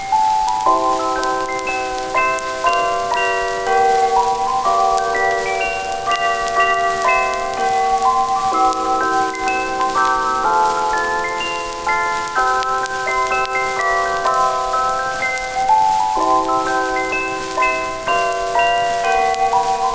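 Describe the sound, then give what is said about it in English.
A melody rings out on a chime, its clear bell-like notes stepping up and down in a repeating phrase, played steadily with no voices. “It's a bit of a tune that I'll play on my chime that I've got with me here.”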